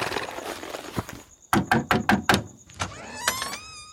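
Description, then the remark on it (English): Horse hooves clip-clop along in a steady rhythm as a horse is led down Baptist Alley toward a theater's rear stage door at 9 p.m.: a run of sharp, hollow strikes, loud against a soft background hiss, followed by a few scattered steps and a brief high tonal sound. “At 9 p.m., John leads his horse down Baptist Alley that leads to the rear stage door of the theater.”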